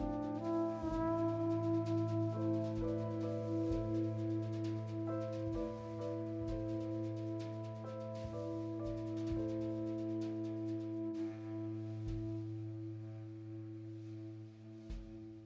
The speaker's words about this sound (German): Wir hören noch Musik von Ihrem aktuellen Album, reichmachende Musik, für die Sie den Echo Jazz bekommen haben.